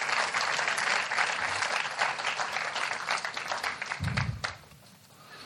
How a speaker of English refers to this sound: Could I have a round of applause for 5 people that did not know what I was going to do to them?